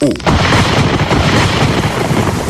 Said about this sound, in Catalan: Llamp. Descàrrega elèctrica que es produeix entre dos núvols, entre diferents parts d'un mateix núvol o bé entre el núvol i el terra.